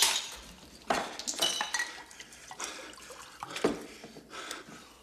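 pouring a drink

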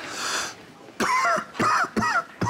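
coughing

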